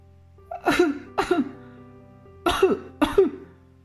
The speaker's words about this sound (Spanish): Y entonces, el pequeño rey se pone a toser.